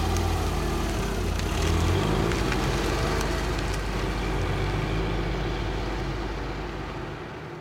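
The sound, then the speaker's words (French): A refrigerated car's engine runs steadily, a loud, continuous low rumble with a broad noisy hiss on top, holding constant for several seconds before easing slightly at the end. “J'ai trouvé, voilà qui devrait vous contenter, une congélo-voiture.”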